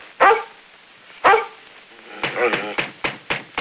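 A dog, Lassie, in Edinburgh, gives two loud, sharp barks with a pause between them, then breaks into a quick run of five or six shorter, higher yapping barks.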